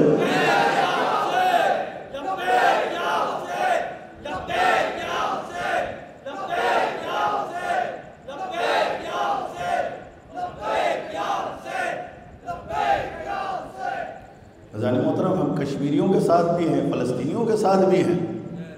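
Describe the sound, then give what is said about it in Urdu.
A large crowd chants the slogan 'Labbaik Ya Hussain' in loud unison in response to a speaker's call, repeated bursts of shouting in a steady call-and-response rhythm, ending in a sustained roar of many voices. “جو جو لوگ نشتر پارک کی آواز پر، مسنگ پرسنز کی آواز پر لبیک کہنے کے لیے تیار ہیں، نعرہ لگاؤ گا، نعرے کا جواب دینا ہے، لبیک یا حسین.”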